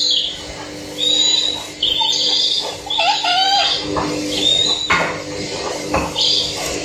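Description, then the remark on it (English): Electronic owl hoots and chirps from a plush owl toy under a sofa, a series of bright, warbling calls repeating over several seconds, clear with a faint background hum. “it was a Harry Potter plush owl making magical owl noises under”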